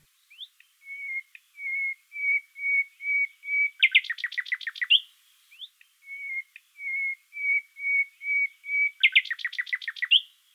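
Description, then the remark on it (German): Nightingale song with its whistle motif: a series of pure, flute-like notes at a steady pitch, then a rapid burst of trilled notes, repeated twice, clear with no talking. “Eine Ausnahme, das berühmte Pfeifmotiv aus dem Gesang der Nachtigall.”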